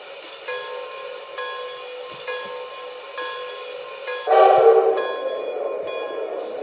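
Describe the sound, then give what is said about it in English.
Passenger train number 317 pulls into the station at Allentown on track 1: a steady, fairly loud mechanical drone with sustained tonal whine, then a sudden rush of hissing noise near the end as it nears the platform. No voices. “on track 1, train number 317, the Black Diamond.”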